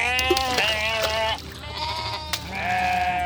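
A sheep bleats loudly, two long quavering cries separated by a brief pause, with no voices over them.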